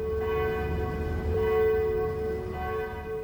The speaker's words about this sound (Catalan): L'artiller va pulsar altre cop el botó i un altre concert de campanes es va difondre de trinxera en trinxera. Semblava com si toquessin juntes totes les campanes del nostre país.